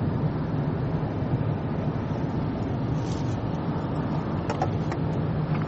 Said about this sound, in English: So, I'm driving through Pennsylvania right now. It's kind of rainy.